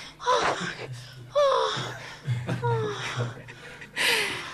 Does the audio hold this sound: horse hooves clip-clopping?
no